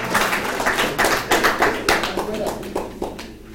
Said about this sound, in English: Come on, appreciate God this morning. Amen. I say appreciate God by clapping unto the Lord this morning.